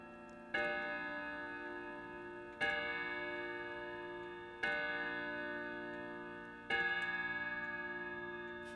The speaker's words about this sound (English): It's all out of sync, but it will write itself. So this should be striking quarter past now, but it's striking the hour.